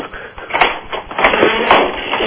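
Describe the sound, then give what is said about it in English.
A door creaks open in a drawn-out, uneven groan, with scraping, wavering tones that rise and fall over about two seconds, fairly loud and steady throughout. “Open the creaky door. It's the best sound effect we've had.”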